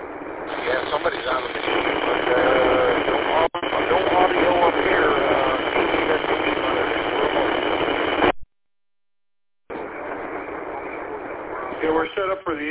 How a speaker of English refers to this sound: Sunday night at 5 o'clock, so that's why you're hearing what you're hearing at HF. There's no squelch, so you just gotta be patient and see what we're gonna do here.